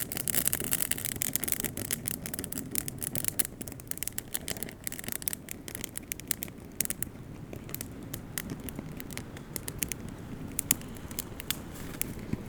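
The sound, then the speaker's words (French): A fire crackles steadily, with dense, irregular pops and snaps over a soft, continuous rushing roar, as night is about to fall. No one speaks. “Sentez-vous la chaleur, le crépitement.”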